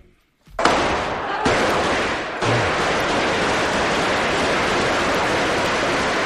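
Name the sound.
gunshots fired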